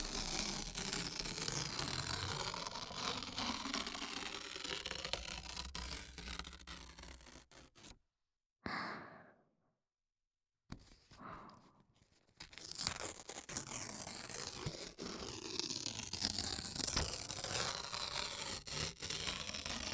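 Close-up paper rustling, crinkling and tearing, a dense, continuous crackle that stops for a few seconds midway with a short isolated rustle, then resumes just as busily.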